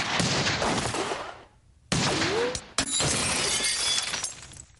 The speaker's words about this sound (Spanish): Tras alcanzarle un disparo del brazo, la lámpara de araña cae sobre ella.